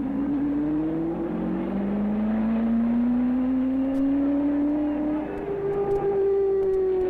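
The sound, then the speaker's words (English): A front-engine roadster race car, Jim Hurtubise's Pepsi Frito-Lay Special, roars loudly at speed while qualifying at Indy at 162.2 miles per hour. Its pitch climbs steadily over several seconds, with a brief dip like a gear change before rising again. No voices. “Jim Hurtubise, the only man to bring a front-engine coffee roadster to Indy, is finally ready.”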